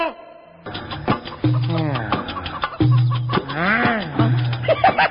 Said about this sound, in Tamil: Master, என்னது இடுப்புல கோழி கூட கட்டிக்கிட்டீங்க?